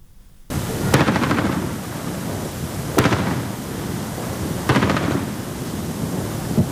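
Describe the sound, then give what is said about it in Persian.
Anti-aircraft gunfire from air defenses stationed in Tehran's Enghelab area, fired at a drone in a no-fly zone, booms out in three sharp bursts at roughly two-second intervals, each blast rolling and echoing over a constant rumble of background noise, with no voices. “خبرگزاری‌های ایران از شلیک پدافند هوایی مستقر در منطقه انقلاب تهران به سمت یک پهپاد خبر دادند.”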